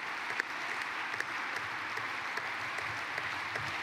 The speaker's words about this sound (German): Jetzt kommt natürlich gerade Applaus, wenn wir einschalten.